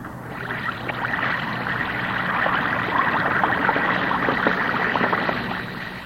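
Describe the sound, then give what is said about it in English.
An Alka-Seltzer tablet fizzing in water, a dense, steady hiss of countless tiny crackling bubbles that runs evenly for about six seconds with no voices. “That's the Alka-Seltzer fizz. It's the extra lively, cheery, sparkling fizz you know so well.”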